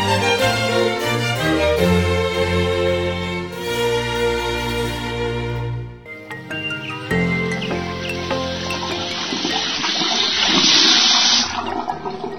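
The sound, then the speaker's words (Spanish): A musical passage gives way to loud rushing water, like a faucet left running, a steady splashing hiss that swells and brightens before cutting off abruptly near the end. “Una llave abierta consume hasta 12 litros de agua por minuto.”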